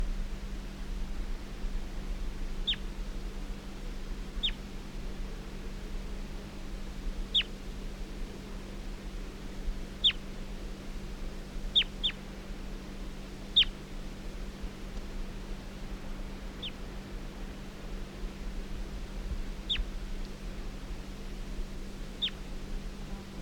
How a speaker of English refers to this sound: Stop. Recording bird 338 being handled. 338.